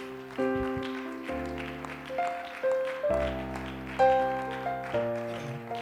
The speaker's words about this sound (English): If we can give God a hand clap of praise for hearing our prayers.